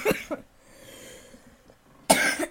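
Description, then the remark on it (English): A quick pair of dry coughs, a short quiet pause, then a louder, harsher cough burst, all close to the microphone with no talking. “sorry about this. I've been coughing.”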